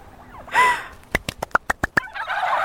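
Turkeys gobble on a turkey farm in Essex: a rapid run of about seven sharp, rattling pulses follows a squawk, with more birds clamoring noisily in the background, loud.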